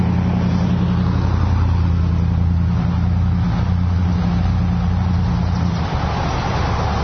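A car rumbles past on a road on a windy day, its low engine drone steady and loud, mixed with gusty wind noise, with no voices, as a person walks with a guide dog.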